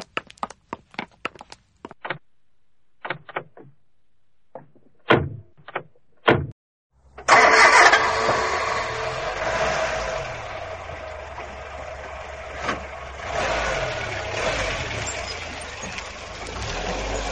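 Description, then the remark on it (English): A few sharp thumps and clunks of a black and white car's door closing, then the engine starts abruptly and settles into a steady idle with no one speaking. “My car's right over there. The black and white one.”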